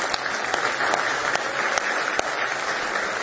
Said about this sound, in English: Give him one more big hand clap of praise if you love him tonight.